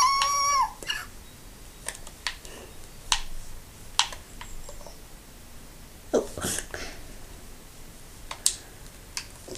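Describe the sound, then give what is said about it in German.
A short, high-pitched dog whimper rises at the very start, followed by scattered sharp clicks and brief noisy bursts over a quiet background, with no one talking. “Nein, nicht mein Hund.”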